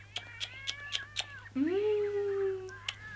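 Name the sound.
kitten meowing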